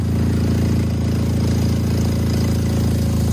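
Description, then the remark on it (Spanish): A loud, steady car engine idles with a harsh, raspy low rumble from an exhaust whose catalytic converter has been stolen, constant throughout with no voices. “Bueno, igual lo escuchas y piensas que es un martillo neumático, pero no, es el tubo de escape de un coche al que le han robado una pieza que se llama catalizador, una pieza bastante conocida.”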